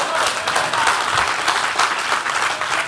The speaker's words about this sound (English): It's time to come out of the cave. Get the Lord a real hand clap right there.